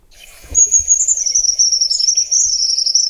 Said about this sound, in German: Also man hört schon, der Vogel ist genau wie seine Größe eher zurückhaltend, aber hier kommt noch das Lied.